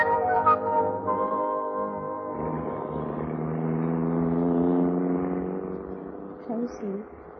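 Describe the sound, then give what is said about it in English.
A car engine hums steadily, swelling as it pulls off and then gradually fading away, with faint voices briefly audible near the end. “Take them to the car, Angela, and let's get going.”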